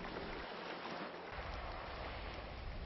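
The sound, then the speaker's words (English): Ocean waves around Anuta, a small Pacific island of about 1/6 of a square mile, wash in a steady, continuous roar of surf, with no distinct breaks between swells and no voices present. “Anuta is so small that no matter where you are, the sound of the waves is ever present.”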